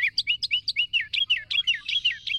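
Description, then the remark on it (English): A wren pours out a loud, rapid song of bright, high chirping notes, repeated in quick rhythmic phrases that run into a fast trill, with no voices present. “Some of the noisiest species in the Americas are the wrens, their loud chants and trills all out of proportion to the slightness of those slender bodies.”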